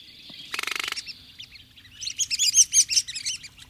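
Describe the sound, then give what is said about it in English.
Red-cockaded woodpecker calls: a quick buzzy rattle, then a lively run of sharp, squeaky chirps, clear and fairly loud over a faint outdoor background. “These artificial homes have helped bring the red-cockaded woodpecker back from the brink.”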